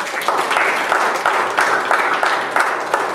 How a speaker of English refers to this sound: Give a warm hand of applause.